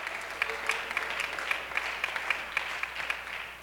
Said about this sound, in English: Clap your hands unto the Lord this morning. Hallelujah.